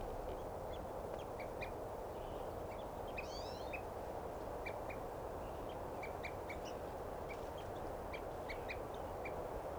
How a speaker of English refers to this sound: Here's a crossbill.